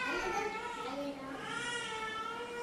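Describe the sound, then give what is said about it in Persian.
A young child who was vaccinated that day fusses and cries in drawn-out, wavering wails that carry steadily through the whole stretch, loud, with no clear speech over it. “بچه چشه؟”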